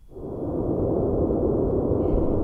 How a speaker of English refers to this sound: I use them in hotel rooms because if the walls are thin, yeah, that they have white noise, brown noise, purple noise. So yeah, for people, here's white noise.